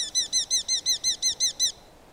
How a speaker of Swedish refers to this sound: Och lärkvalken är lite snabbare och lite gällare.